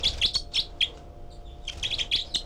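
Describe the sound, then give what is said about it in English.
Bird 318, one of a group of four birds at a nest in cell four, gives rapid, high-pitched begging calls, short sharp chirps in quick bursts with a brief pause midway, over a low background hum; recorded with a parabola around the microphone. “318 giving begging calls.”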